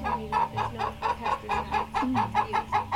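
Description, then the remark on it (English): Chickens cluck in a steady, busy chatter, short repeated calls tumbling over one another at a brisk rhythm, moderately loud, with no voices present; a flock of around 1,500 chickens, kept as rental chickens and meat chickens. “They're separated into rental chickens and meat chickens.”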